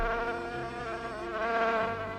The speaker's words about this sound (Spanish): Ya está aquí, la mosca de la tele, la mosca de la radio. Ay, que se quite la mosca, hombre.